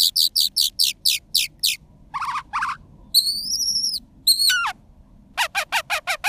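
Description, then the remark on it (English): A Phainopepla, a pointy-headed songbird that mimics other species, calls in a varied, mimic-like sequence: rapid bursts of sharp descending chirps, two buzzy notes, a few clear whistles, a rattling trill, then another quick chirp series. “The pointy-headed songbirds are talented mimics, often copying the vocalizations of other bird species.”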